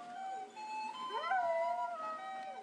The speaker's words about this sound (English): But for the dogs, it's far from funny. The compulsive urge to howl is inherited from their ancient ancestors.